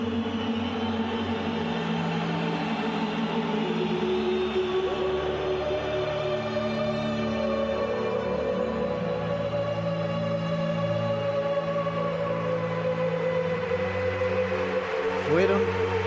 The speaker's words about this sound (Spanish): Fueron silenciados por la música y sobre todo por los aplausos que oímos de fondo de la mayoría. Aplausos de la mayoría. Aplausos de unos y de otros. Como del técnico Diego Pablo Simeone.